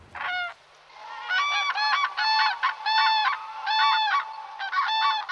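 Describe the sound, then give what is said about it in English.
Common cranes calling: loud, rattling trumpet-like bugles repeated in a steady series of bursts, several birds overlapping, with no voices. “Cranes are a large bird. They've got a long neck. They stand about 1.2 metres tall.”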